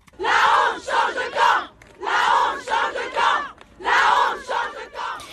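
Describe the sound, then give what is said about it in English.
A large crowd of mostly female voices gathered outside the court in Avignon chants "Shame changes sides" in support of Gisèle Pelicot, repeating the same loud rhythmic phrase three times with brief pauses between each round. “That is the predominantly female crowd gathered outside the court in Avignon yesterday in support of Gisèle Pelicot.”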